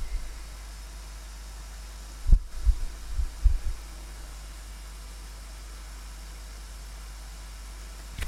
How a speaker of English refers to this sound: We're just hearing the sound of walking towards the spring where the water comes out of the ground in this valley.